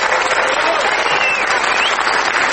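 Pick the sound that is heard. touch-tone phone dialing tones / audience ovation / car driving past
audience ovation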